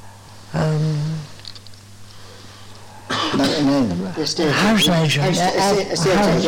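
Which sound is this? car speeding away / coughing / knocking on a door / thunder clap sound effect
coughing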